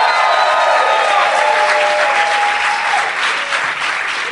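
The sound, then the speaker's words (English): A large crowd at the Tom Lee Music Hall in Vancouver, BC, Canada, during the Vancouver Comedy Festival claps loudly and steadily, with whistles and cheers rising through the dense wall of applause for the whole stretch, barely easing toward the end. “Fired up crowd.”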